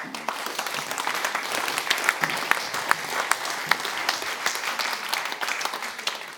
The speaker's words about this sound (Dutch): Geef hem nog even een applaus. Hier zit dus die emotie, jongens.